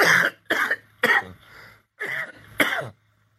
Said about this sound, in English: Yeah, that's the cough.